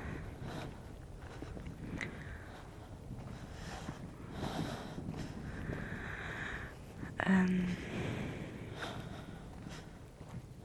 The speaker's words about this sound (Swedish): Vinden. Kjenner vinden.